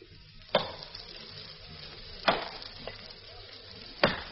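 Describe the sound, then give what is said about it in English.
Someone chopping wood for stove fuel behind a house by the sea at dusk: three solid, sharp blows at a steady, unhurried pace, with one lighter knock between them, over a constant hissing background. “There was no sign of life about, but from the back of the house came the sound of somebody chopping wood.”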